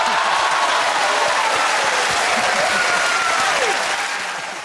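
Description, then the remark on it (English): A TV show studio audience and team burst into loud, sustained gasps, cheering and applause after a reveal, a dense wash of clapping with a few whooping voices rising through it, fading slightly at the very end. “If you're not a regular viewer, you wouldn't necessarily know the gasps and cheers from the audience and team are much more raucous than we are used to.”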